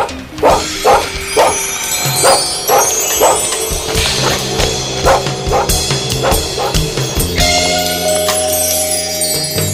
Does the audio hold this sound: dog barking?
yes